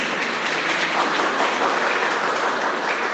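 round of applause

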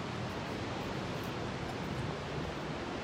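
ocean waves

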